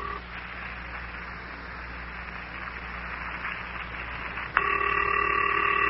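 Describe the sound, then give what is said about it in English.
A telephone call rings on the other end, waiting for the Wonderlic twins to pick up: after several seconds of steady hiss, a loud, even electronic ring tone cuts in and holds, with no one answering or speaking. “Who are you talking to? They can't hear you. Not until they pick up their telephone, at any rate.”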